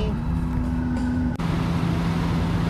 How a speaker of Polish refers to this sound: Teraz jedziemy autobaną.